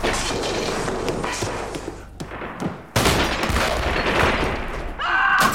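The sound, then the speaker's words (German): Dense, sustained gunfire crackles continuously, a rapid volley of overlapping shots, as police under Police President Zörgiebel fire on the Communists. It breaks off briefly before a second loud burst resumes, with faint voices barely audible beneath. “Jedenfalls hätten wir verpasst, wie Polizeipräsident Zörgiebel die Kommunisten schon mal vorsorglich unter Beschuss nimmt.”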